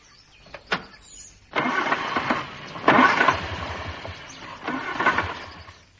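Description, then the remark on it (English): A car engine tries to start: a couple of short cranking bursts, then a long rough, sputtering churn that swells and surges twice without settling into a steady idle. No one speaks. “Get out of that bed and come and look at my car.”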